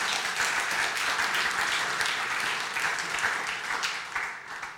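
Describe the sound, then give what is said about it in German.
A crowd applauds the worship team steadily, a dense wash of many hands clapping at an even, sustained level that thins slightly toward the end. “Kleiner Applaus darf auch durchaus.”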